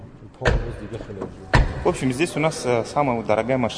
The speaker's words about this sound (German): Potenzielle Kunden nehmen die Modelle unter die Lupe, schauen unter Motorhauben, klopfen das Blech ab und testen die Sattheit des Klangs beim Türenschlagen.